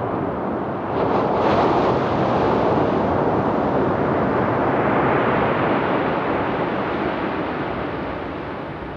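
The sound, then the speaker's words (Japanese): Steady, full-bodied wash of calm ocean surf rolling onto the sandy beach at Isohama Beach in Yamamoto Town, a continuous roar that swells slightly early on and eases toward the end, with no voices. “この波のようになるべくすべてを受け入れ、常に心穏やかにやりたいと感じさせます。”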